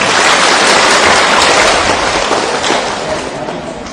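A crowd applauds steadily for four seconds, a dense, loud wash of many hands clapping at once, easing off slightly toward the end.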